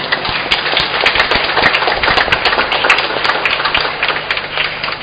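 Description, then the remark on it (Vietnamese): A Vietnamese church audience bursts into loud, sustained applause for the choir on its patron saint's feast day and 15th anniversary, dense overlapping claps forming a steady roar of hand-clapping with no speech. “Tôi xin cùng với lại cộng đoàn chúc mừng ca đoàn hôm nay nhân ngày bổn mạng bằng một tràng vỗ tay thật lớn.”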